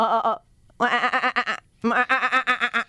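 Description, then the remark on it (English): A loud human voice sings three sustained phrases with a rapid, wavering vibrato that sounds like a goat's bleat, separated by short pauses. “It does sound like a goat.”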